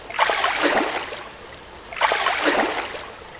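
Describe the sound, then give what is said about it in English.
Two bursts of sloshing, splashing liquid, each lasting under a second with a pause between, as someone dunks under and surfaces in a pool of clear liquid candy mistaken for waterfall water. Moderately loud, no voices. “I'm gonna dunk myself under and...”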